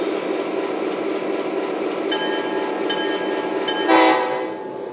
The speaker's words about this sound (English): train number 2, the National Limited.